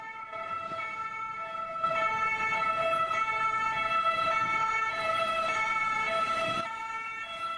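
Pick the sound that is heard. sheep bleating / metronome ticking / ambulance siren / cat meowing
ambulance siren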